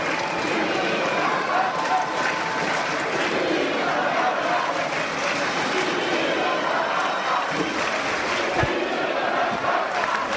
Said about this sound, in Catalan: Els crits de Vilafranca, Vilafranca, pungen l'aire, aplaudiments i continuen.